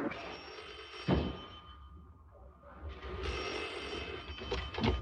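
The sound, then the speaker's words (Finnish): A telephone rings steadily against a noisy, muffled background, with a couple of sharp mechanical clicks or knocks breaking in. No one speaks. “Niin, puhelimessa toimittaja”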